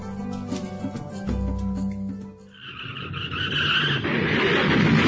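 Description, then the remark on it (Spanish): A car engine hums and revs, then tires let out a loud, sustained screech as the car skids hard into a collision that damages the car, with the squeal growing harsher and noisier toward the end. “¡Uy! ¡Mirá cómo quedó el auto! Perdóname, fue mi culpa.”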